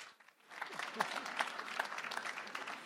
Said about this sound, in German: Rock'n'Roll, Putzfrau bei den …, Applaus für Birgit Rabisch.